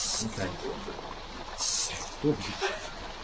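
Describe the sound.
Two short, fairly loud hissing bursts from an aerosol can spraying artificial snow, separated by a pause, with low voices murmuring in between.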